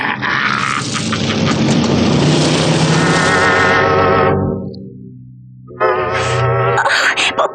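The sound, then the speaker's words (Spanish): Loud roaring engines of motorcycles and cars approach, a dense rumbling wash that fades out briefly before another engine surges back in, loud. “esos gorilas se acercan en sus motocicletas y en los autos.”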